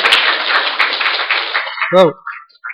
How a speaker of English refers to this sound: Whoa, that was a beautiful. Give him a clap for that. Похлопаем, пожалуйста.